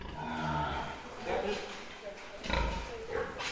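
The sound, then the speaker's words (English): About 90 pigs carrying cloned embryos, kept in two great rows of pens in a giant shed in China, grunt and snort irregularly on a very warm evening as they settle for the night, several overlapping calls echoing, moderately loud with a steady background murmur of more animals. “I'm in a giant shed holding 90 pigs in two great rows of pens.”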